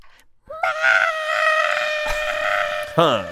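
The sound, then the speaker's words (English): A loud turtle scream: one long, steady, shrill cry held for over two seconds, breaking into a brief falling squeal at the end, with no talking around it. “Okay, my queen, I do need to hear what a turtle scream sounds like.”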